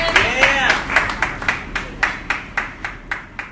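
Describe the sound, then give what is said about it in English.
A comedy-show audience claps for a comedian in a steady, rhythmic beat, sharp claps roughly four per second, with a brief whooping voice at the start. “Keep that applause going for your next comedian,”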